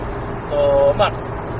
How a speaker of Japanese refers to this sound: スタートでのこの騒音というか、後ろの音で分かるように、今回も、車内放送でございます。